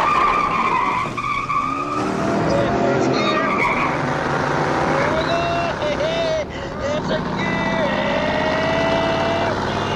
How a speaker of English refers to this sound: Pedro burns rubber.